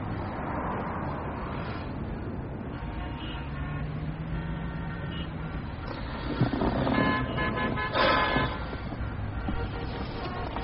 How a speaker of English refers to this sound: I'm surprised that there's traffic. There's always traffic.